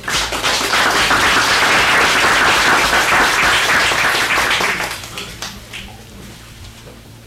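An audience claps in sustained, dense applause for about five seconds to thank people who introduced themselves, then it tapers off into a few scattered claps and quiet room noise.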